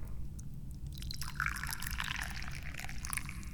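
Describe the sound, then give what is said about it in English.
Tea is poured steadily into a cup, a continuous splashing trickle with bright gurgling tones that rise slightly as the cup fills, over a low background hum. “I like to drink tea, so I'm going to pour some tea now.”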